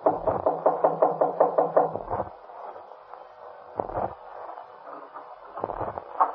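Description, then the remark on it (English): A quick run of about eight sharp knocks on a wooden apartment door, up the stairs on the left, followed by a few scattered, heavier thuds with quiet gaps between them. No one speaks. “Just go up the stairs and knock on the door on the left.”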